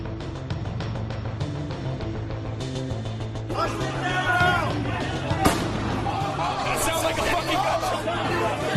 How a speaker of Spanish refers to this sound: Seguimos escuchando este sonido, ese disparo dentro del Capitolio de los Estados Unidos. Se nos sigue poniendo la piel de gallina, sin duda, cuando bueno escuchábamos lo que estaba pasando,